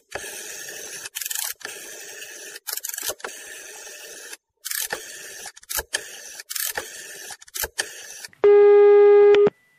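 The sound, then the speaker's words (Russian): A loud, steady telephone ringback tone sounds once near the end, following several seconds of choppy, crackling mechanical noise in short bursts, as a call is placed to a number from the official website of the Just Russia (Spravedlivaya Rossiya) party. “Два раза мы звонили в «Справедливую Россию» и попали в охранное предприятие.”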